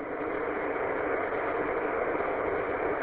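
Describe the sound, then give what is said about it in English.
A steady, continuous car engine hum as the car is driven on a commute to work, with a broad, even rumble and hiss that holds constant throughout, no talking and no changes in pitch or loudness. “I just hopped in the car on a little commute to work and heard the net going on, so I just wanted to pop in and say hi.”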